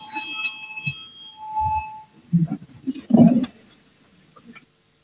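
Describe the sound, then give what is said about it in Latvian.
An electronic voting signal sounds in parliament before a vote on a proposal. Steady, thin beeping tones hold for a few seconds while low thumps and shuffling noises rise and fade beneath, with no voices. “Lūdzu, zvanu, balsosim par 7. Kultūras ministra Puntuļa priekšlikumu.”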